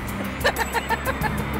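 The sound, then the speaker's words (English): Steady low engine drone from inside a small car driving in Libya, from the Mediterranean coast toward the town of Ghadames on the edge of the Sahara. A quick, regular rattling pulse rides on top, moderately loud throughout. “This is a very funny little car.”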